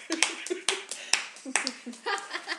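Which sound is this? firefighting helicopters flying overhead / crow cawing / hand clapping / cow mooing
hand clapping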